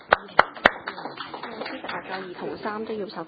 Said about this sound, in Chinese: 咁如果係大家冇特別意見咧，請考慮通過呢兩套嘅附加準則同埋建議嘅更改部分。大家冇意見啊嘛？冇啦，咁我哋通过啦，好嘛？大家鼓掌通过啦。